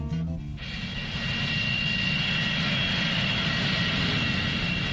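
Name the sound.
airplane engine in flight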